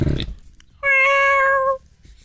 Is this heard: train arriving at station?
no